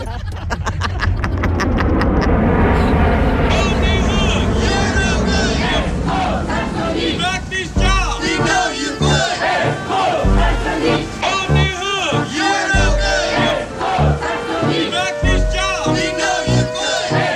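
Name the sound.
protesters chanting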